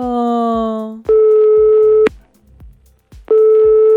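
Loud, steady telephone signal tones sound in long beeps: a lower buzzing tone, then a higher tone that stops, a brief quiet gap, and the tone returns.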